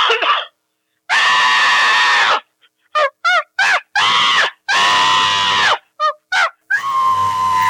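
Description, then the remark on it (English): A person imitates a chimpanzee screaming: loud, shrill shrieks in a run of long wails broken by short, choppy yelps, with no talking in between. “Now let me hear a chimp scream.”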